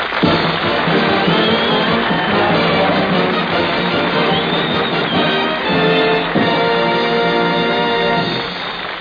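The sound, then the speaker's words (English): A Radio Hall of Fame audience applauds Billy Gilbert loudly and steadily for about nine seconds, with tonal music playing through the clapping and the sound easing slightly at the end. “So how about clapping calloused mitts for Billy Gilbert?”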